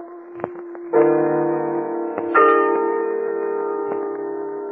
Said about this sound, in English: It's the story of a very unfortunate man, this man who was arrested down in old Hong Kong. He got 20 years privilege taken away from him when he kicked old Buddha's gong.